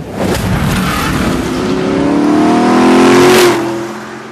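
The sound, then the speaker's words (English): A sports car with Weber carburetors and Hallebrand knockoff wheels revs up loudly, its pitch climbing in a rising harmonic sweep before easing off near the end, with a throaty intake roar. “We'll play it for you. Webers.”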